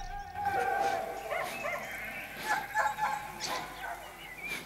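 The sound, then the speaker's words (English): Herding dogs bark in short, scattered bursts as they herd sheep down into a forested valley, while the sheep bleat in overlapping calls, a busy outdoor commotion with a steady wash of background noise. “his dogs begin to herd the sheep down into the forested valley.”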